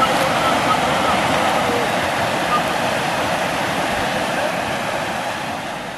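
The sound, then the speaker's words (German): Rushing whitewater on the Neckar river roars steadily in a dense, unbroken wash of noise, loud throughout, easing off only slightly toward the end. “Kraftvoll, ungezähmt und respekteinflößend. Wer Wildwassersport betreibt, setzt sich mit dem Wasser als Naturgewalt auseinander.”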